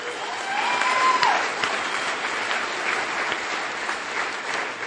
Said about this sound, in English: You are clapping for yourselves. You're clapping for AA